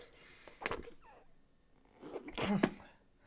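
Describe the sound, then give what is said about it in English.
Soft whimpers come in two short breathy bursts about two seconds apart, each with a brief strained, whiny edge. They are fairly faint, with no talking. “I'll take those whimpers as a yes.”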